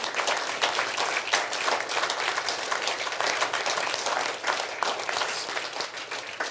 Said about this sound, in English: Yeah, let's just clap. We'll be done.